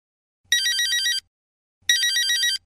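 A telephone rings twice, each bright electronic trill lasting under a second with a short pause between, loud with no voices.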